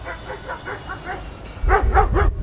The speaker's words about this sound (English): They think it's a dog running by, I've noticed. A normal car goes by, they know better. But this thing starts whirring, it appeals to a dog's high frequency sense, and they go nuts.